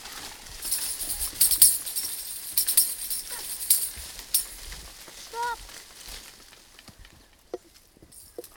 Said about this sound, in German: Hugo liebt das verfallene und verlassene Schloss, in dem er lebt. Er freut sich über das Kettenrasseln am Tor.